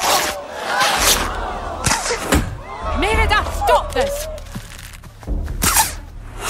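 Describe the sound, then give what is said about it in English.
In a scene from Pixar's film Brave, Merida looses arrows in an archery contest for her own hand in marriage. The arrows land with a handful of sharp thwacks spaced a second or so apart, while a woman shouts over a murmuring crowd. “Don't you dare loose another arrow!”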